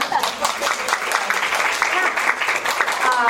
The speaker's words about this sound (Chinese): OK， 好，谢谢，拍拍手。